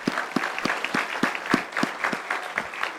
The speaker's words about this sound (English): And so I want to real quick, just let's have a hand of just a praise to God and applause for the way she served.